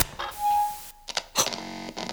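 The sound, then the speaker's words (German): A ceiling neon tube light flickers on: a thin steady whine, then a few sharp clicks and bright crackling bursts, settling into a low electrical buzz. No one speaks. “Das Neonlicht geht an.”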